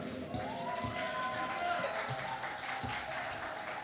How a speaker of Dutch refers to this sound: Ik wil toch even een applaus geven voor onze Piet en Eindjes hier.